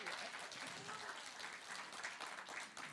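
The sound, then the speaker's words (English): A large church audience applauds itself for raising over $100,345 for its Leap into Spring program: a steady, dense wash of many hands clapping at once, sustained and fairly loud throughout, with a few scattered voices mixed into the noise. “Give yourselves a clap.”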